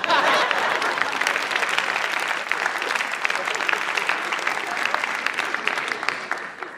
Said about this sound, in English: It's okay to applaud.